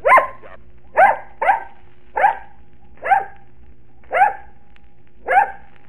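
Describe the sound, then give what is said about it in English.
A dog named Bozo barks seven times in a row on a stage, loud, each sharp bark separated by short, slightly uneven pauses, giving a number as an answer, with no voices around it. “Yes, but even I might be able to bark the right answer once.”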